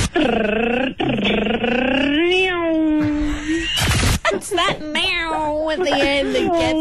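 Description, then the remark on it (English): A cat meows loudly, starting with a long, drawn-out wavering yowl, then a quick run of shorter rising and falling meows toward the end. “That meow at the end that gets me.”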